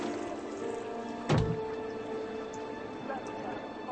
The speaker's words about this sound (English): Water up against the hull, making noises. Sometimes you hear things.